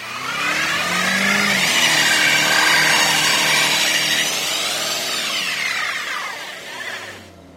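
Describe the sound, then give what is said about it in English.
A car at a bank in Charlotte revs its engine hard while its ice-trapped front tires spin and whine on the ice, a loud, steady roar whose pitch climbs and sways for several seconds before easing off at the end. “He clears a little path and then gets back in his car and starts revving the engine and rotating the wheel, spinning his tires on top of the ice.”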